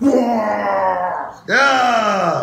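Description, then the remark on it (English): A man imitates a monster roar with two long, loud, strained vocal bursts, each a drawn-out growling wail that slides downward in pitch, separated by a brief dip in the middle. “That might have been the least fearful roar I've ever heard in my life,”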